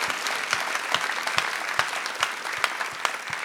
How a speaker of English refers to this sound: Yes, let's clap for that.